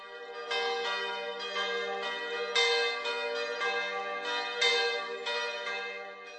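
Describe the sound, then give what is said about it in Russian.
A church bell peals in a steady series of strikes, its bright, ringing tones overlapping and sustaining into one another. Loud, with no voices. “Этими украшениями толщина стенок колокола увеличивается, что влияет на его звук.”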